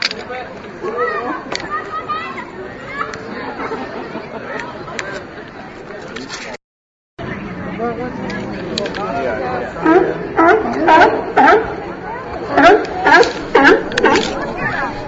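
A chorus of California sea lions barking at the end of Pier 39, with overlapping rough, honking calls that turn into louder, rhythmic bursts toward the end. The sound cuts out briefly partway through.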